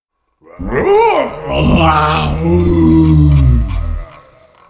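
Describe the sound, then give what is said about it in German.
A human voice imitates an enormous roar: one loud, drawn-out guttural bellow lasting about three and a half seconds, swooping up in pitch at first, then holding low and rough before cutting off. “Ein ungeheuer lautes Brüllen fegte Carla zu Boden.”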